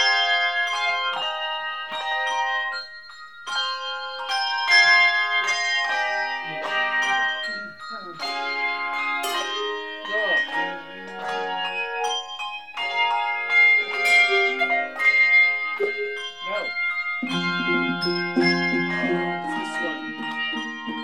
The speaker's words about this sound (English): Handbell choirs are common church music ensembles. The Bells of St. Vrain is First Congregational's group and has been performing at the church since the 80s.